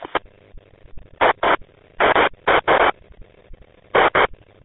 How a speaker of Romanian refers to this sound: Da, numai că bate vântul mai tare în asta. Se aude mai mult vântul.